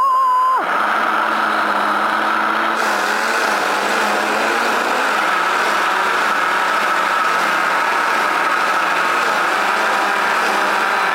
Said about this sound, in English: All right, so we're gonna blend that up. Here we go. Me and my blender.